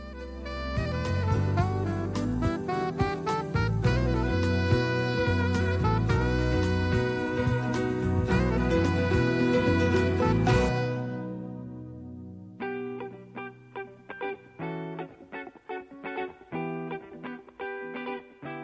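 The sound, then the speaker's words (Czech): An instrumental music interlude with no voices on Radio Beograd 2 during the program Hoću da znam: a dense, full passage for about ten seconds, a brief drop-off, then a sparser, choppier section with distinct repeated notes continuing to the end. “Slušajte emisiju Hoću da znam, ovo su Talasi Radio Beograda 2, nakon muzike donosimo vam razgovor o visibabama.”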